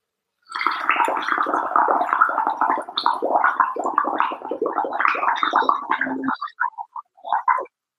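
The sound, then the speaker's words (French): A steady stream of bubbling and gurgling as air is blown through water for about six seconds, followed by a few softer, separate burbles as the breath runs out. “Et en fait, ce qu'on va faire, c'est qu'on va faire des bulles dans l'eau.”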